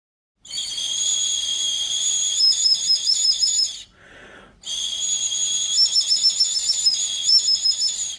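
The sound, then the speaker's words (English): Shrill, high-pitched whistle tones from a small replica of a 12,000-year-old prehistoric bone whistle, made from mallard bones, played in two long sustained bursts with trilling, warbling flutters, separated by a brief lower breathy note. Fairly loud, no talking. “Since archaeologists frown upon trying to play 12,000-year-old instruments, the researchers used mallard bones to create exact replicas of the prehistoric whistles. You can find out what they sound like right here.”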